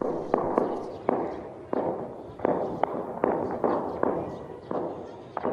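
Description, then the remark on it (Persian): Repeated sharp explosions crack out at irregular intervals, roughly a dozen bursts over a sustained rumbling, noisy background with some echo: one large blast, then several smaller ones, during an attack by eight gunmen on the new Interior Ministry building in Afghanistan and their clash with police. “نخست یک انفجار مهیب به وقوع پیوست و به تعقیب او چند انفجار کوچک دیگر به دنبال درگیری آغاز شد.”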